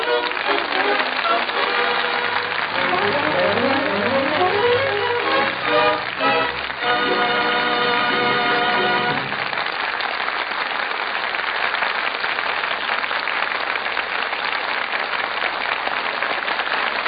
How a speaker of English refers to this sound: From that enthusiastic applause, it sounds as though our audience here in the Gulf Theater really enjoyed the show.